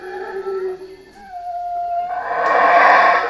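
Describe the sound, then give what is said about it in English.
Howler monkeys call in a tropical rainforest in Belize: long, droning howls hold steady, then swell into a louder, rougher roaring chorus toward the end, with no one speaking. “Those are howler monkeys in a tropical rainforest in Belize.”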